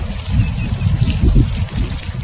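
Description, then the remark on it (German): A dense, continuous patter of tiny splashes and trickles from hundreds of freshly hatched tadpoles wriggling on their old jelly in a stream or shallow water, fairly loud, with no voices. “das plätschernde Geräusch kommt von frisch geschlüpften Kaulquappen, die zu Hunderten auf ihrer alten Gallerte in einem Bach oder seichten Gewässer zappeln”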